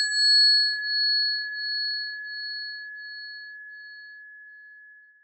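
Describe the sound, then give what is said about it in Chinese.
A meditation bell rings once to mark the end of a meditation session, its pure sustained tone shimmering with slow pulsing waves as it gradually fades over several seconds, heard alone with no voices. “当听到铃声，我们便结束本次冥想。”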